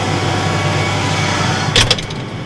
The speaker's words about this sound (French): On va reprendre le tracteur? On va reprendre le tracteur, oui. Avec le journaliste au volant. Vous prenez un sérieux risque, là.